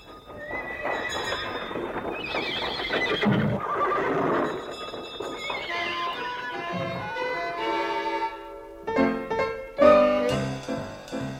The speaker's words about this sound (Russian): Сэм, подать почтовый дилижанс бывшего пиквикского клуба. Занимайте места! Я на козлах!